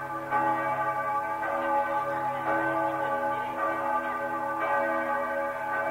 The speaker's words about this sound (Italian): Era il martedì grasso, il più importante giorno di carnevale, e a Mosca le campane suonavano festose.